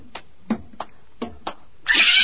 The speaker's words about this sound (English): It's a cat! A cat! Get away! Get away! Stop kicking my cat!